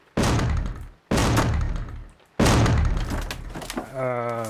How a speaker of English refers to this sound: As part of the diagnostic spell, the door to the room was broken down.